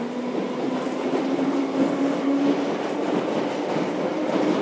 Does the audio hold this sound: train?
yes